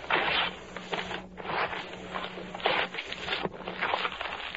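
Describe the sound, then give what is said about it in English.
Several sheets of paper bearing written questions are torn up in a series of harsh, crackling rips, with short pauses between them and a low steady hum underneath. “Now, Madame Roberto, I have here on these sheets of paper the questions that are most bothersome to these people. Tear them up, please, and throw them away.”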